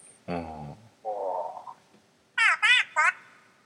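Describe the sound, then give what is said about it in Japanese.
A series of frog-like croaks, fairly loud: a low, buzzy croak, then a drawn-out warbling call, then three quick higher-pitched croaks in a row. “ね、カエルも喜んでおります。”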